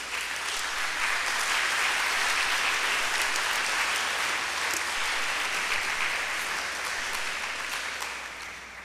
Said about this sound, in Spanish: ¿Está de acuerdo conmigo? Pues dar un aplauso al Señor. Si no, no lo aplaudas.